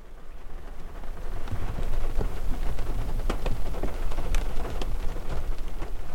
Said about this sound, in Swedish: Särskilt när regnet börjar smattra mot rutan vid strax efter 2:30.